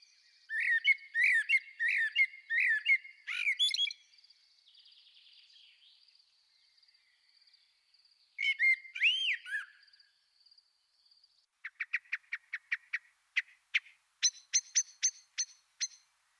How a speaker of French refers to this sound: C'est le merle noir. Il appelle, babille, flûte, siffle. Ce chant, lancé d'un perchoir exposé, est une belle série de notes mélodieuses et flûtées, des notes claires et sonores formant des phrases, entrecoupées de silence et de reprises.